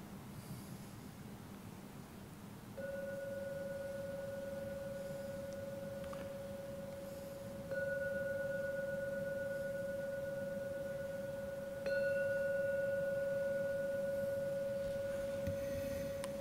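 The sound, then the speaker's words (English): A gong is struck three times at steady intervals, each stroke giving a clear mid-pitched tone that rings on without fading before the next, over a low background hum; no one speaks. “And hearing the gong 3 times.”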